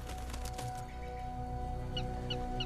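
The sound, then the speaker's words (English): An eagle cries overhead in three short, high-pitched calls repeated at a steady pace, fairly faint above a low, constant droning background, flying by day over a mountain that looks out on a desert valley. “Princess's eagle flies over the jackals where they stand on the mountain, looking out at the desert valley below.”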